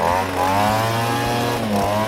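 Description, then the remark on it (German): A leaf blower runs steadily, its loud motor droning with a high whine and slight surges in pitch, with no talking over it. “Können Laubbläser eigentlich nicht leiser sein, will eine Hörerin wissen.”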